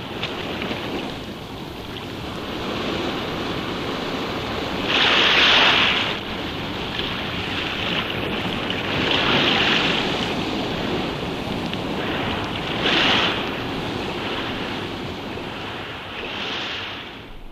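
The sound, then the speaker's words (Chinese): Ocean surf rumbles steadily while four louder waves crash and hiss at intervals of a few seconds, with wind noise blowing across the microphone and no voices. “我陈天华为了警醒中国同胞同心同德，决心一起挽救国家民族，我要跳下去大海，以身殉国。”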